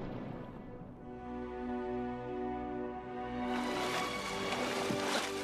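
Water sloshes and splashes loudly as Sam, sinking, is grabbed by the arm and hauled up into a boat by Frodo, the churning rising sharply partway through over a steady orchestral music bed.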